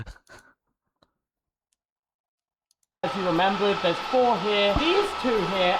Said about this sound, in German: Was ist das? Dokumentenschredder oder eine Klimaanlage? Okay, Air Conditioning.